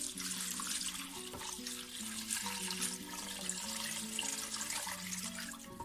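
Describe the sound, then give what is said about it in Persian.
Four to five glasses of water pour steadily into a stew pot of sautéed meat and onions for several seconds, a continuous splashing rush, with soft tonal music playing underneath and no talking. “توی این مرحله آب رو بهش اضافه میکنیم، بین 4 تا 5 لیوان آب.”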